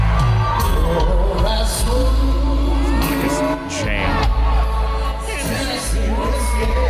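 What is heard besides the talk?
crowd cheering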